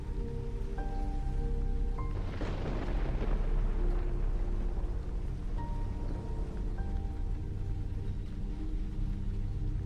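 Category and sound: nature, rain falling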